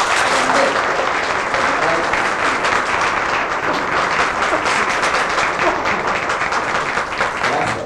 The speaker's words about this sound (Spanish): Gracias, maestro, por ese título a nuestro querido pueblo. Vamos a dar un aplauso. Los tuxtlecas.